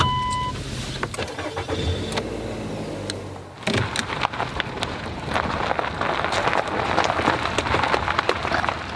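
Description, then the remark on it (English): A grandmother's car drives along a road with a steady low engine rumble, joined after a few seconds by a dense hiss of tire and rain noise. It stays loud, with no one talking. “Well, we can also drive that car if we need to.”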